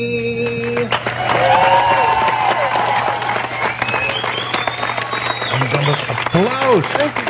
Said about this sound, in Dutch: Dat applaus ook van die mensen.